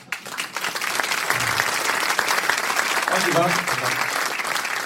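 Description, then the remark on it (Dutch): Sustained applause from an audience fills the whole stretch, dense clapping at steady loudness with faint voices mixed into the crowd noise. “Maar ik dacht aan een applaus wel.”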